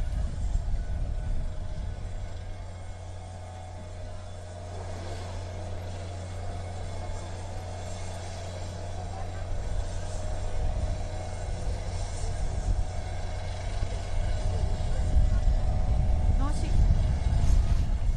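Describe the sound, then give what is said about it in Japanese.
A Kyoto City Fire Department aviation unit helicopter idles on the escort ship Hyuga with a steady low engine drone and rotor hum, building louder toward the end as it readies to lift off carrying a brain-disease patient in a drill at Kyoto Maizuru Disaster Prevention Festa 2019, with a voice talking over it. “脳疾患の患者の方をヘリに乗せて、京都市消防航空隊所属のヘリコプターが護衛艦ヒューガから飛び立とうとしているところです。”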